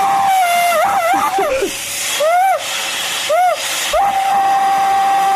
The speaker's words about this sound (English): Okay, listen to this vacuum cleaner. Oh my goodness, if I were to hear that, I would think someone was in distress. Yeah, me too. It's a terrified vacuum.